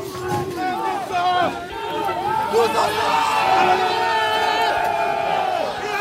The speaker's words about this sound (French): Les gendarmes n'amènent pas large, là, il y a une charge des salariés contre les CRS, contre les gendarmes. Voilà, là, ça charge.